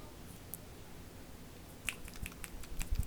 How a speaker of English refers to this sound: And you're not allowed to clap because that's too aggressive, so you have to do everything with hushed snips.